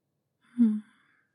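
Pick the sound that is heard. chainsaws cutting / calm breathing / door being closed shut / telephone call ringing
calm breathing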